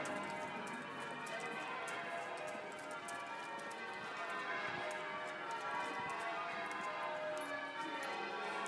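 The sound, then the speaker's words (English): Church bells ring continuously in a dense, overlapping peal that echoes all around a pedestrianised square outdoors, steady and fairly loud throughout, with no voices. “We're now in a sort of pedestrianised place. And bells echoing all the way around.”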